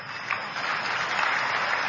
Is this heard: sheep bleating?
no